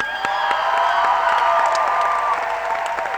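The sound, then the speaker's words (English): A concert crowd applauds a band member being introduced, steadily for about three seconds, dense clapping mixed with cheers and a few high whistles, holding an even loudness throughout. “He's going for the applause meter tonight, wearing a Chicago Cubs shirt.”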